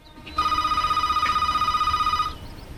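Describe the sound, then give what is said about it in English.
A telephone in a hallway rings once in a loud burst of about two seconds, a bright warbling trill that cuts off sharply as it is answered, with no voices around it. “turns back and answers the phone in the hallway.”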